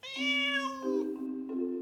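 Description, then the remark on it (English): A cat gives a long, drawn-out meow that bends in pitch partway through, clear with no other sounds around it. “A cat has 20 different sounds to express its emotions.”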